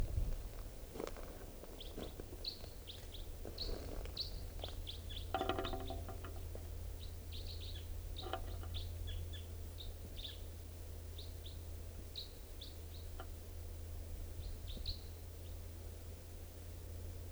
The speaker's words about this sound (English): Wild birds here. Wild. Can't tell who's who and all stuff. This is one of the birds. And it just joined its mate. And they're just perched up in this tall Douglas fir above the net area.